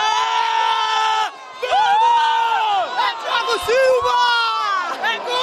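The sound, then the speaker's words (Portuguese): A crowd of about 20,000 football fans at a fan festival in Copacabana roars a long, drawn-out goal shout at the first goal, 7 minutes into Brazil versus Colombia, with sustained yelling voices that rise and fall in waves and stay loud for several seconds. “O primeiro grito de gol foi com 7 minutos.”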